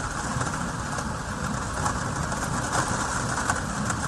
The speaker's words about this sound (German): Und jetzt bin ich im Keller herunter und ihr hört jetzt mal einen heftigen Regenschauer auf meine Plexiglasabdeckungen prasseln. So hört sich das also an. Draußen regnet es strömend und hier ist alles wunderbar trocken.